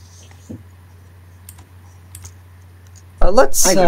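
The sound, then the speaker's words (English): Scattered, unhurried mechanical keyboard clicks tap out over a steady low hum, a few keystrokes spread across several seconds, before a loud voice cuts in near the end. “No, that's just the keyboard. That sounds realistically like a mouse.”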